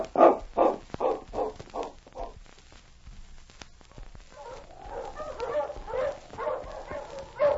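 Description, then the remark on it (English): Sergeant Preston's sled dog team barks as it is stopped near a cabin: about six sharp, evenly spaced barks at first, then a pause, followed by a denser, overlapping chorus of excited barking and yelping. “Sergeant Preston stopped his dog team and walked toward Chuck's cabin.”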